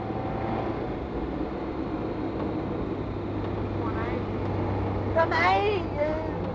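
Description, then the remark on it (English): A lorry drives along the road, its engine a steady, loud low rumble with road noise throughout, and a brief voice cuts in near the end. “Follow this lorry, aren't I?”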